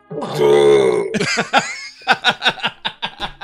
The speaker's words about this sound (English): I swear to God, it sounds like that guy who couldn't stop belching. Oh, the burping guy.